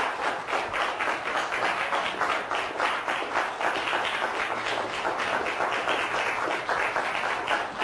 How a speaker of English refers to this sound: But also listed here on the board are teaching fellows past who have been involved with the course since February of 1999. And if you would indulge me with a round of applause for these four,